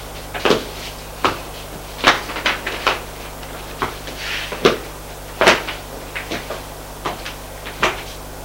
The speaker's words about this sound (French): Il ouvre une porte.